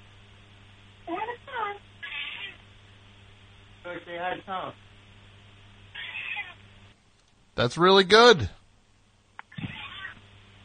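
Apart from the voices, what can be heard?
cat meowing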